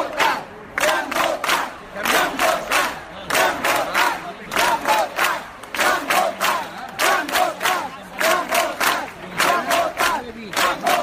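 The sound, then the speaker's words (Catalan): A large crowd at a gathering in Móra d'Ebre chants the Catalan slogan "ja hem votat" ("we have already voted") in unison, the same few syllables repeating in a steady, forceful rhythm throughout, loud, with no single voice standing out. “La concentració a Móra d'Ebre finalitzava amb una gran ovació als bombers voluntaris i als agents dels Mossos d'Esquadra, i finalitzava, ara sí, amb aquest crit, el de ja hem votat.”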